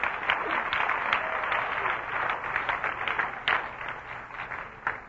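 A crowd applauds steadily for several seconds, a dense wash of many hands clapping at a fairly even, moderately loud level, with no one speaking over it.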